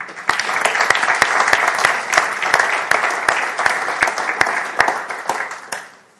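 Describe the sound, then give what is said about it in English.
A crowd applauds the youth leaders and helpers steadily for about six seconds, dense overlapping claps with a few sharper individual claps standing out, fading slightly at the end. “Also, a round of applause for all the youth leaders and helpers during that time.”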